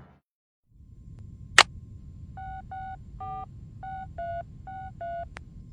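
A phone keypad being dialed: about eight short, evenly spaced two-tone beeps in a quick rhythm, preceded by a sharp click, over a low background hum with no talking.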